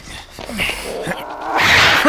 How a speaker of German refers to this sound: Das ist doch der Kater der Murphys.